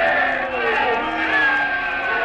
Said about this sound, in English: Hey, Riley, they're booing him. Yeah, well, wait till it's all over. They'll poo out of the other side of their mouth.